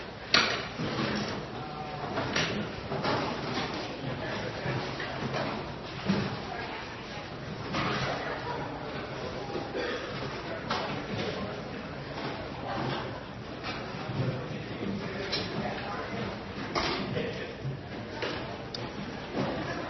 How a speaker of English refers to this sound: But I want you to get in groups of five. I want you to move your chairs around.